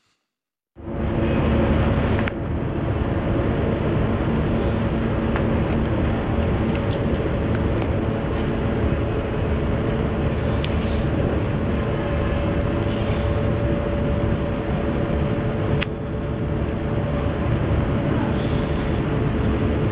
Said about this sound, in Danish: svag susen i baggrunden, det er altså israelske kampdroner, der hænger over området